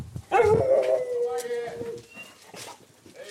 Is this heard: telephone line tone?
no